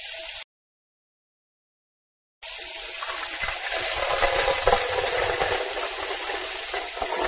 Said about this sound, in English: First, turn on the tap. Okay. Put some water into a pan. Okay.